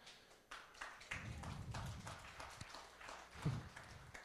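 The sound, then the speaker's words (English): An audience attempts a slow clap: uneven, loosely synchronized claps repeat at a steady but ragged pace, sharp and moderately loud, with a low murmur underneath and no clear talking. “Y'all slow clap game is struggling, but I appreciate it.”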